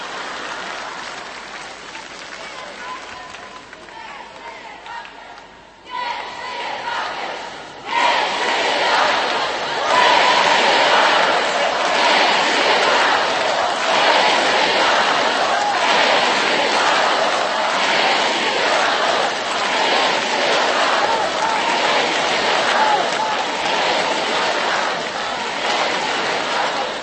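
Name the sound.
crowd shouting and cheering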